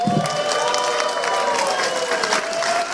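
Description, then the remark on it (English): Steady audience applause mixed with cheering and whoops as a woman from Maryland makes her way through the crowd to the stage, a dense wash of clapping with a few sustained shouted tones riding over it, loud and continuous throughout. “Ladies and gentlemen, I'm going to put your hands together for Kelly.”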